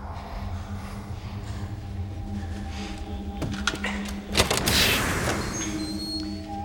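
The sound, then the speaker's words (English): A door is opened slowly, a few soft clunks followed by a brief rushing scrape, all over a steady low mechanical hum with no talking. “Open the door slowly.”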